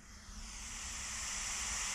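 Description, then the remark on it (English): White noise playing from a phone app: a steady, even hiss with a bright high-pitched edge, swelling slightly in the first second and then holding constant, with no voices. “This is the white noise.”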